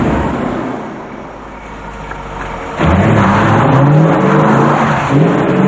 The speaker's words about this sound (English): Outside, a sports car pulls out of the driveway.